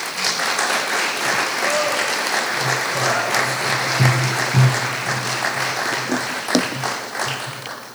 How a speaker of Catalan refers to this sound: Autoritats vàries, senyores i senyors, un aplaudiment per la presidenta de la Comissió de Carnaval